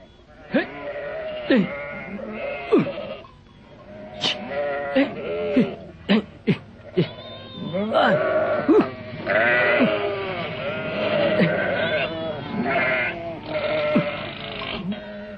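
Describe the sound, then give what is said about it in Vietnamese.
A herd of goats in the mountains bleats continuously, many overlapping wavering cries, some short and sharp, others drawn out, building into a dense chorus toward the end. “Một hôm cùng với bạn vào núi đi săn và bắt gặp một đàn dê.”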